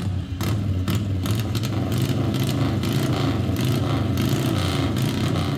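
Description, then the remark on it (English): A Harley-Davidson XR750 45-degree V-twin race engine runs loud, its rough, throbbing exhaust holding steady with quick pulsing bursts of revving throughout, and no one speaking. “Other race engines are XR750 that we had for years and years.”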